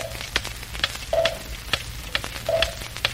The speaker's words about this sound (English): I used to work in a clock factory putting tick-tocks in clocks. In the small ones, I didn't use any tocks, just ticks. In the medium-sized clocks, I used tick-tocks. And in the big ones, I only used tocks.